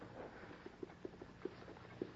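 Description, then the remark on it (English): A white horse's hooves clip-clop in a steady, rhythmic series of hollow knocks, fairly quiet, growing slightly stronger as it approaches over a soft background hiss. “Blandon, it's him. Look at that white horse.”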